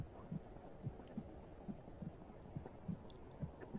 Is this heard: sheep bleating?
no